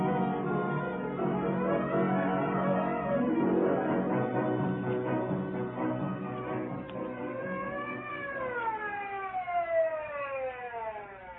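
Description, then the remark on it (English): A wailing ambulance siren rises and falls in sweeping pitch glides, loud, with layered harmonics and a dense rumble of traffic or engine noise underneath throughout. “Twenty minutes later, the ambulance arrived.”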